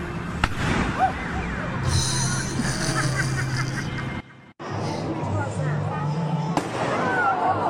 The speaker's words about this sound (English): So it just looks like a regular vest, kind of. But then, like, pillows go around your head, your neck, and it makes a gunshot sound like a regular airbag. So here's the demonstration.